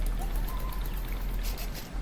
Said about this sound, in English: You can hear the water.